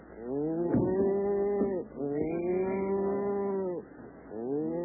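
cattle mooing

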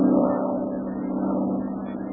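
single-engine plane flying overhead

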